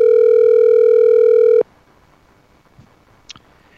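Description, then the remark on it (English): A loud, steady electronic tone of an outgoing phone call placed by a radio host to a listener rings once for about a second and a half, then cuts off abruptly into quiet line hiss with a faint click. “Let's see if he answers the phone.”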